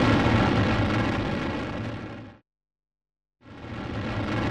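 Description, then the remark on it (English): A volcano erupting on an island: a loud, dense roaring rumble that cuts to silence for about a second, then swells back in with the same heavy, continuous roar. “Hey, this isn't a mountain. It's a volcano! Run!”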